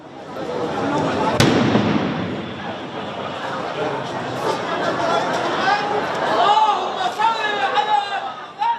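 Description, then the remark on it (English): A single sharp explosion cracks out early at a funeral service in Lebanon for victims of pager explosions, cutting through the steady murmur of a large crowd. Afterward the crowd noise swells with raised voices and scattered shouts. “The AP was covering a funeral service for victims of the pager explosions when another blast hit.”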